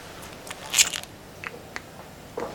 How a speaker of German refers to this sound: Und ließ das Feuerzeug danach mit einem Klicken wieder zuschnappen.